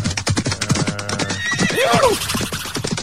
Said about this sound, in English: Well, there you go, horses. Beautiful.